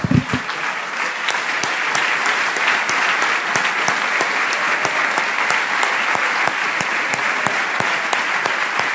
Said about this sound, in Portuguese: Aleluia! Ah, vamos aplaudir a Jesus.